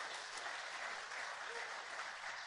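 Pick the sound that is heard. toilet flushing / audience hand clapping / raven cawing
audience hand clapping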